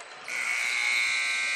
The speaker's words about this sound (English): And now there's the buzzer ending the first quarter of play. George Ranch Longhorns 20 and the Dulles Vikings 8.